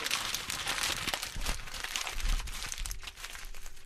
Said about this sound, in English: crumple it up. Yeah, let's do that.